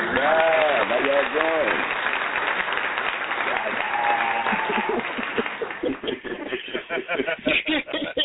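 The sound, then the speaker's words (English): A crowd claps loudly and steadily for special guest Gary Anthony Sturgis on the I Got Something to Say radio show, with whoops and cheers rising over the applause at the start. The clapping fades after several seconds as a person begins talking. “please assist me in putting your right one and your left one together. Let's clap it up for our brother, our special guest, Gary Anthony Sturgis in the building.”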